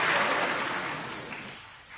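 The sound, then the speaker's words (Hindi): A crowd claps together, a dense wash of many hands that starts loud and gradually thins and fades over about two seconds. “मैं बोला लोग इस बात में तालियां बजा लेंगे, करेंगे नहीं।”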